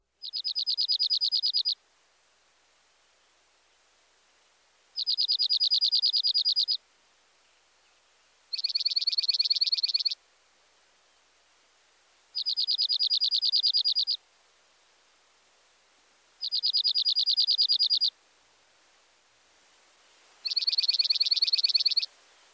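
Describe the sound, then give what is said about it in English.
A dark-eyed junco sings six rapid, musical trills, each about two seconds long, repeated at steady intervals with quiet pauses between. The song is clear, with no other sounds. “His rapid trill is sweeter and more musical than the first two species. Here's the junco.”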